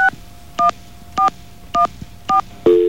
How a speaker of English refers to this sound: We're going to try to make a phone call, okay? Hang on. Got dial tone? All right. Hold the phone, will you? Thank you. Because we have to press these buttons really hard.